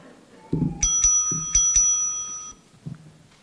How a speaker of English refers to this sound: I say, hey, wait a minute, something else is going on here. In fact, a little bell goes off. Did you hear that?